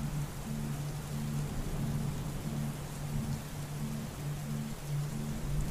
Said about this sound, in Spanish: Así que disfruta de esta tormenta de verano. Obsérvala desde ahí arriba donde estás, ya que esta tormenta es tan solo para disfrutarla.